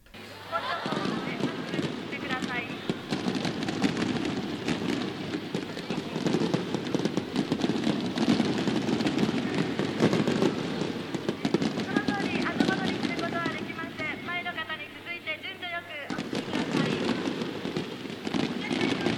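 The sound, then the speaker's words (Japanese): Fireworks over the Sumida River crackle and pop in dense, continuous bursts over a busy outdoor crowd, with voices murmuring throughout and a short lull near the end before the crackling resumes; recorded as 3D sound with a Mimitaro. “はじめに隅田川の花火の集音です。”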